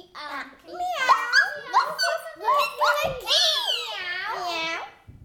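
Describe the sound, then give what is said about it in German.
Children's voices imitate a donkey's bray, a dog's bark, a cat's meow and a rooster's crow in quick succession, loud, with rising and falling squeals. “Der Esel schrie, der Hund bellte, die Katze miaute und der Hahn krähte.”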